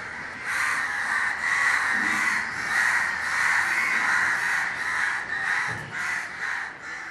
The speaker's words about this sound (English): But some sounds defy change. The vendors on the street, the bus conductor, even the racket of crows, they still define what it means to grow up in India.